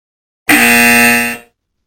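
sound effect, buzzer sound effect

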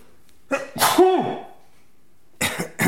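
human body sound, sneeze

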